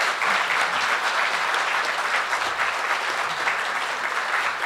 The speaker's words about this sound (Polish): Gratuluję bardzo. Wielkie brawa, proszę państwa.